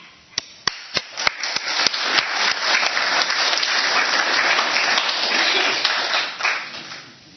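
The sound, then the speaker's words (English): An audience bursts into sustained applause welcoming a woman up to the stage, starting with a few sharp, scattered claps that quickly swell into a dense, steady roar of clapping before tapering off near the end. “So I invite you to give a warm applause”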